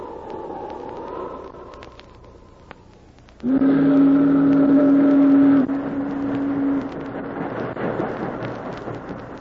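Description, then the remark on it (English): The steamboat Bonanza Belle rumbles and churns up the Yukon River toward Dawson City, then a loud, deep steam whistle blows one steady blast for about two seconds before the engine noise carries on alone. “As the Bonanza Belle chugged up the Yukon River toward Dawson City”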